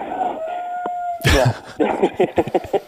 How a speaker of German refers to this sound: Nein, das sind unsere Hühner und wir haben derzeit drei Hähne. Die machen aber ordentlich Ballett, muss ich sagen. Die machen ordentlich Ballett.